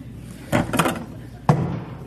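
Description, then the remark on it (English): Michael Berg accidentally knocks his plastic water bottle off a podium: a quick cluster of hollow bumps and clatters, then one sharp final thud a moment later, with no talking. “That bumping sound was the moment when Michael Berg accidentally knocked his plastic water bottle off the podium.”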